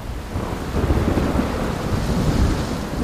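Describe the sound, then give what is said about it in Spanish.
Deep, sustained rumbling of thunder from a night storm with lightning all around rolls through a steady wash of rain, swelling slightly in the middle before easing, with no voices. “Rayos para aquí, rayos para allá.”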